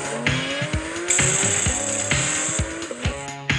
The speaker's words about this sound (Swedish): Men som sagt var den for runt på Mantorp, den här elbilen, så att den gick ju något alldeles galet och sen bara viner och susa lite i bilen alltså.